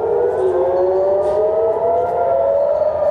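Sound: air raid warning siren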